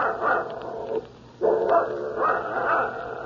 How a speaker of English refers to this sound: Shut that dog up.